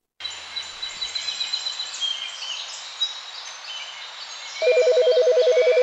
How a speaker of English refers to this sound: You're in the forest, and there's a warm breeze blowing through your hair as the birdsong fills your ears with joy and peacefulness.